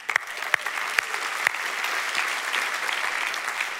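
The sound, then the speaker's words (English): A few sharp, separate claps ring out at first, then a whole audience joins in, blending into steady, dense applause that carries on at an even level without any voices. “In our house, when one person claps, we should all clap.”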